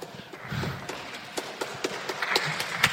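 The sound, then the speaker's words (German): Scattered, uneven clapping from a small group, sharp claps landing irregularly and growing a little busier toward the end, with no talking over them. “Applaus.”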